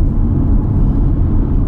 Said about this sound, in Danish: Og jeg kører bilen.